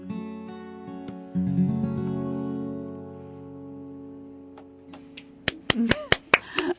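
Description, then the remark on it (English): A single person claps several times near the end, sharp slaps in an uneven burst, following a sustained humming, tonal backdrop that fades beforehand. “but I'm clapping because that was beautiful.”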